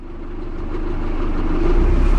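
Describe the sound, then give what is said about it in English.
A steady low engine drone from a small fishing boat motor on the waters of the Bosphorus in Turkey, continuous, rumbling and gradually growing louder over a couple of seconds, with no voices. “I'm on a small fishing boat on the waters of the Bosphorus.”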